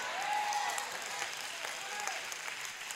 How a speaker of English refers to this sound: I got to say something that you got to hear. So I'm going to wait to get through clapping.